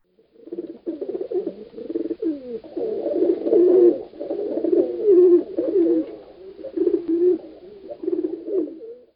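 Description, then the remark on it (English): Several pigeons picking crumbs off the sidewalk by the stone steps of the Canadian consulate coo continuously, their soft throaty warbles overlapping in a steady murmur with no talking. “He had been sitting on the hard stone steps of the Canadian consulate for 2 or 3 hours, Rodney McKay thought, when the pigeons picking crumbs off the sidewalk near his feet brought him to something which might be mistaken for consciousness.”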